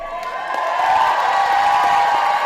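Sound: crowd cheering and applause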